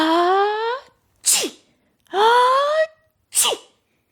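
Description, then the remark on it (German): A dragon sneezes twice in a row, its nose tickled by floating dandelion seeds, each a long rising, voiced intake of breath followed by a sharp, breathy burst, with brief pauses between them. “Der Drachen muss niesen.”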